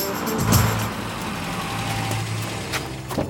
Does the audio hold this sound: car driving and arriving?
yes